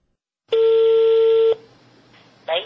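A telephone line tone sounds as a call is dialed, a single steady electronic buzz of about a second, followed by a quiet pause and the start of another short tone at the end.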